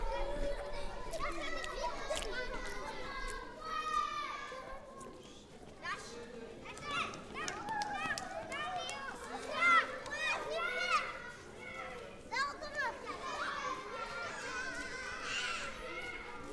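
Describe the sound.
Crowded schoolyard chatter: many children shouting, laughing and calling out at once, a steady, lively din of overlapping young voices with occasional high shrieks for the whole stretch.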